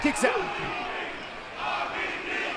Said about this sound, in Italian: Pubblico urla RVD, RVD.